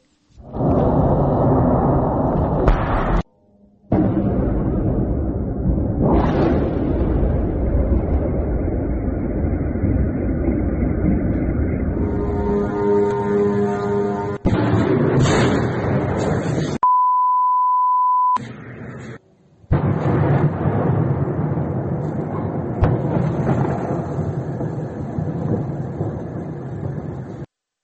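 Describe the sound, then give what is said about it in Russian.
A night-time attack by Iranian Shahed kamikaze drones on Kyiv, Ukraine: a steady roar of noise with a droning, moped-like engine buzz rising through it, broken by abrupt cuts and a brief pure electronic tone. “Давайте посмотрим, как выглядела и звучала эта атака шахедами на столицу.”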